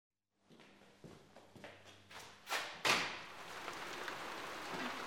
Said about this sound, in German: Bah, aber dieses Wetter. Der Regen hört überhaupt nicht mehr auf.